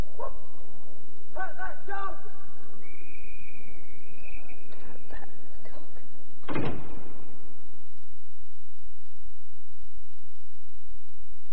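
A dog barks a few quick times, followed by a drawn-out high whine and a sudden sharp thump, then the scene goes quiet apart from a faint steady hum.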